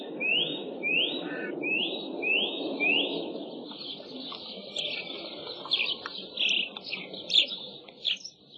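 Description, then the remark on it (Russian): A nuthatch, running head-down over a thawing tree trunk in a forest, whistles a series of clear, rising high notes in a steady rhythm, then breaks into a faster, jumbled run of whistles over a low, rushing background noise. “А вот и поползень.”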